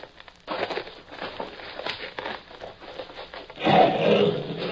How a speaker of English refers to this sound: He is an Arabian lion.